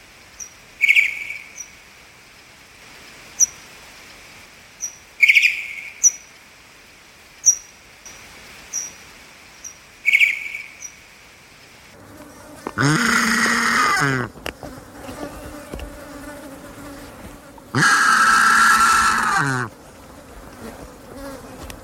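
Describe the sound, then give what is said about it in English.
Pipistrelle bat echolocation and contact calls recorded with an AudioMoth at a high sample rate as the bats hawked up and down a garden, slowed down 8 times: an irregular series of short, sharp chirping clicks, then two loud, dense buzzing bursts of rapid warbling contact calls, with no talking. “Using an audio moth at a high sample rate, I was delighted to record these pipistrelle echolocation signals and contact calls, here slowed down 8 times as the bats hawked up and down the garden.”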